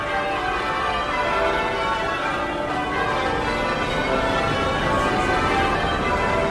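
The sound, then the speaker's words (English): Church bells ring continuously in a dense, overlapping peal, their rich metallic tones layering over one another at a steady loudness with no voices present. “And the sound of those bells, that's just wonderful. That's so evocative. Let's just have a little listen to those.”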